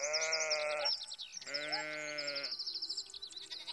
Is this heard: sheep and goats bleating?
yes